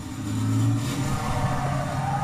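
A car engine revs with a steady low rumble that swells briefly, sounding like an animated car cartoon, with no talking over it.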